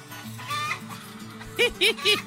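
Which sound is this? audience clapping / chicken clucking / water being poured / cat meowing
chicken clucking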